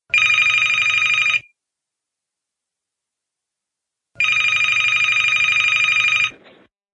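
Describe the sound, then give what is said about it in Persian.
A telephone rings for an outgoing call placed to ask about Persian font statistics: two long, steady electronic ring bursts separated by a pause of silence, loud and evenly pitched, with no one speaking. “گفتم که یه زنگ بزنم آمار فونت فارسی رو بگیریم به بچه‌ها بدیم.”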